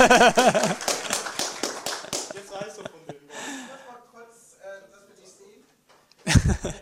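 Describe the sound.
A short burst of applause from a small group, loud at first and then thinning to scattered claps before fading out, with voices mixed in.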